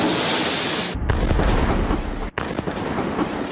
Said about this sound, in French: Plusieurs explosions. Une météorite vient de se désintégrer au-dessus de la ville. Une longue traînée blanche, puis une boule de feu et un éclair aveuglant. Presque irréel.